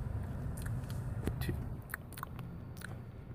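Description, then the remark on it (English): Wet mouth sounds made deliberately for ASMR: a scatter of small clicks, smacks and chewing-like crackles at an uneven rhythm. They are faint over a steady low rumble, with no talking. “And on that note, I gotta get the mouth sounds in. If you're listening for ASMR value.”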